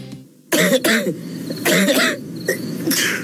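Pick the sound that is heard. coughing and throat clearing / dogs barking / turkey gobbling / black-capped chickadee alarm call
coughing and throat clearing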